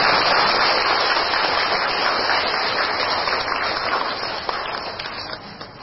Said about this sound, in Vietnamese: Một lần nữa, toàn thể đạo tràng chúng ta tri ân và thưởng một tràng pháo tay thật dài.